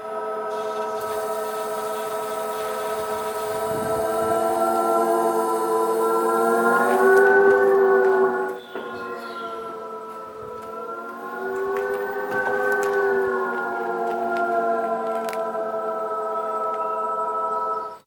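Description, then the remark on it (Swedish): A BMW i3 electric car's artificial warning tone, made by film composer Hans Zimmer, as it reverses a few metres, pauses briefly, then drives forward: a steady, layered humming drone that swells and shifts in pitch, with no talking. “Så här låter en i3-bil som först backar några meter och sen kör framåt igen.”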